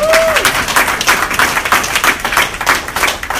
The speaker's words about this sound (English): Big round of applause